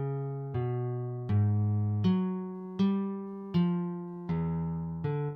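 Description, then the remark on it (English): A melodic phrase of eight sustained tones played one after another at an even, unhurried pace, each bright harmonic note struck cleanly and ringing until the next, with no voices. “So let's hear those 8 tones again.”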